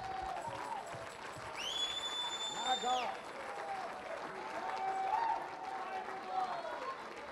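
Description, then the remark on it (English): An audience claps steadily in a dense, continuous wash while a voice rises above it, with a sustained high tone sounding briefly through the middle. “Oh, clap your hands.”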